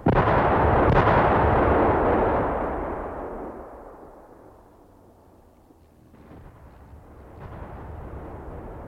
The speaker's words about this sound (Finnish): Seuraava granaattipari ryöpsäytti maata molempien vainajien päällä.